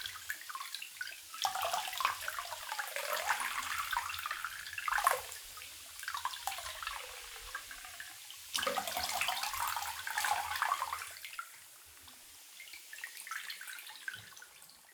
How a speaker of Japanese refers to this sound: 綺麗に泡が流れ落ちましたね。どうでしたか？頭皮がシュワシュワして気持ちいいでしょ？